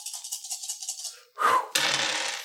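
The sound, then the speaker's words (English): A pile of dice rattles in quick rhythmic shakes, then spills out in a loud clattering burst that settles into a sustained rolling clatter across a hard surface. “That's a pretty good roll.”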